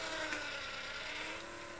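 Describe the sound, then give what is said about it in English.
A steady mechanical whirring with a faint ratcheting, gear-like texture runs continuously at moderate volume from a motorized toy figure that, after a button is pressed, moves its hands from side to side and moves a torch. No speech. “and this one that we press, she's moving her hands from side to side. And she's moving her torch, isn't she?”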